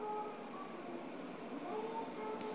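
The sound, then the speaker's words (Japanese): A train, the Tsubame 348 bound for Hakata and departing at 21:09, pulls into platform 11 of a station in Japan, a steady mechanical rumble with faint whining tones that rise and shift as it slows. No voices. “11番乗り場に到着の列車は21時9分発つばめ348号博多行きです。”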